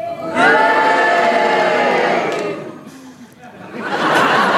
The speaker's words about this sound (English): When the cheer stopped, the boo started, and when the boo stopped, the cheers went on. Sheila Hancock, they're on your side.